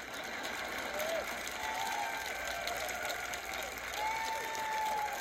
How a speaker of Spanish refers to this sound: A este grupo le gustó y aplaudieron.